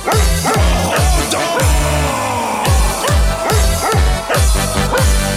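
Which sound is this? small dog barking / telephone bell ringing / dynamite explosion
small dog barking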